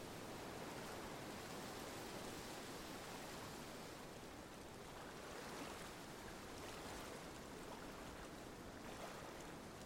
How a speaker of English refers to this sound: Against the shore, little freshwater waves lap against pebbles and tree roots, merely tinkling on this quiet and still evening.